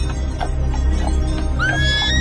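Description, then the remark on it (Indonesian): A horse-drawn carriage rolls past, jingling, with steady, rhythmic clip-clopping hooves over a constant rumble, then a horse lets out a loud, rising whinny near the end. No one speaks. “Dan disusul bunyi gemerincing, gemerincing bunyi kereta kuda.”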